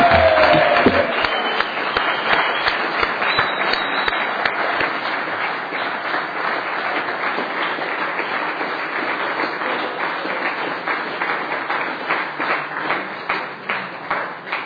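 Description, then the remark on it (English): A crowd applauds steadily for about fifteen seconds for young Challenge Academy participants halfway through their program, dense overlapping claps at a constant loud level that tapers only slightly near the end, with no voices over it. “And so all the applause you can give them to encourage them to stay for the next 3 months before graduation.”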